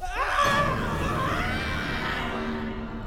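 A drawn-out human scream rises and holds for several seconds, its sound smeared and reverberant as if echoing from far down a tunnel.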